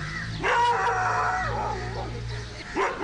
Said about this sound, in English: The faithful Pai dog scares off an early truck.